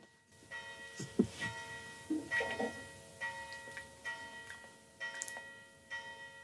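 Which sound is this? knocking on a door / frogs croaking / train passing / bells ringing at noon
bells ringing at noon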